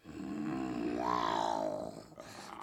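A lioness lets out one long, deep roar that swells and then fades over about two seconds, fairly loud, with nothing else heard alongside.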